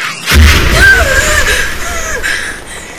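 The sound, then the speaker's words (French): A sudden loud boom opens into a sustained, heavy rumbling of Russian artillery cannon fire all around, with faint wavering whistles drifting over the roar as it slowly fades. “Les grondements de canons russes partout autour de nous.”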